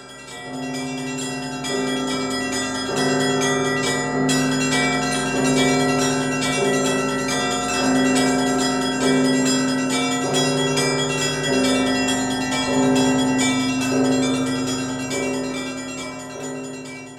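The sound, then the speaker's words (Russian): A festive Easter peal of church bells accompanies a procession around the church, ringing continuously with many bells overlapping in a rapid, rhythmic pattern and sustained ringing tones. Loud, with no voices present. “Крестный ход сопровождается особым пасхальным колокольным звоном.”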